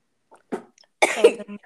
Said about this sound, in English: Excuse me. That was a cough and a sneeze at the same time. So bless you. Thank you.